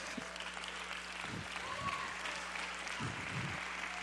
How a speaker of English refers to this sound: I want you to clap your hands, but genuinely understand and totally comprehend what we just said.